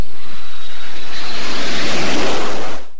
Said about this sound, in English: the A400M's signature display maneuver, where a bank angle of up to 120 degrees is demonstrated following a high-speed pass and climb. The sequence showcases the type's agility and the responsiveness of its Europrop International TP400-6 engine.